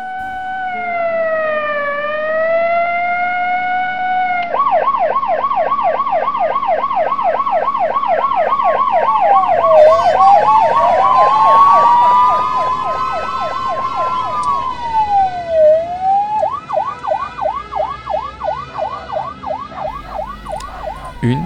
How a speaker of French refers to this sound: Puis plusieurs sirènes le sortirent de sa torpeur. Il y avait un peu de tout dans les rythmes et les tonalités, de la police, des pompiers, des ambulances. Elle sortait de l'autoroute et semblait contourner le terrain vague.